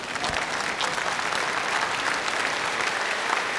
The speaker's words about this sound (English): Before we go to it, yes, you can applaud, yes.